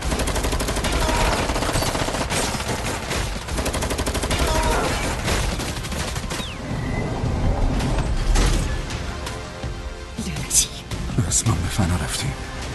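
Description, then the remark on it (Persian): Dense bursts of machine-gun fire rattle almost continuously, loud, with scattered single shots mixed in, while people shout over the chaos as they are ordered to fire at the vests. “اجاب به جلیقه ها شلیک کنید.”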